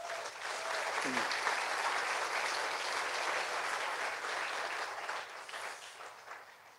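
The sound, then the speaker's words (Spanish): An audience applauds God steadily, a dense wash of clapping that holds strong for several seconds before thinning slightly toward the end. “Me gustaría que le dieras un aplauso a Dios.”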